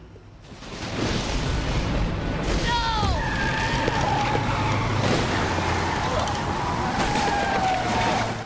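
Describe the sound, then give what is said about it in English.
A white lorry brakes hard on a road, its tyres letting out wavering high screeches that stretch over several seconds above a loud, steady rumble of engine and road noise. “spots him and slams on the brakes.”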